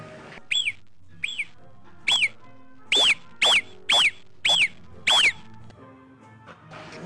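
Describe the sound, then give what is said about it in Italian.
A marmot's alarm whistle: eight sharp, high-pitched calls, each briefly rising then falling, the first two fainter, the rest loud and evenly spaced about half a second apart, with no talking. “Tenga presente che l'intensità del fischio può indicare anche la distanza del pericolo. Sentiamo il suo fischio.”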